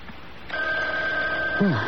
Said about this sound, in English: Oh, it's the phone ringing, Mother. Oh, answer it. It sounds so far away.